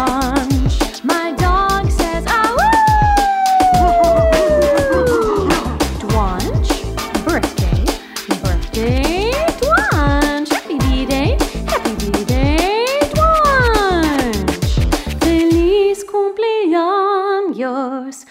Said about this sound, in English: My dog says, to you, Twonch.